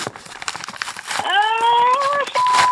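Paper crinkling and rustling of a big manila folder from the CIA, with quick crackly bursts throughout, joined halfway by a steady thin squeaky tone that holds to the end.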